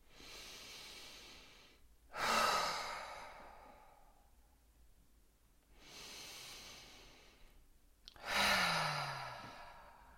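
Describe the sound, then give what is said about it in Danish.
Two slow, deep breaths, each a long airy inhale followed by a louder, sighing exhale, with quiet pauses between and no talking. “Og til sidst tager du tre gode vejrtrækninger.”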